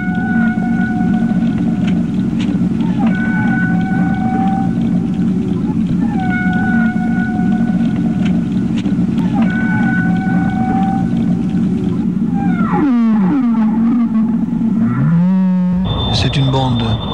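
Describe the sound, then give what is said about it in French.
Whale calls echo underwater in long, tonal moans and rising whistles, repeating every few seconds over a steady low rumble, with sweeping upward cries near the end. “On connaît le bruit des baleines.”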